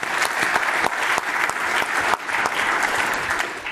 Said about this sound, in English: but you can clap again.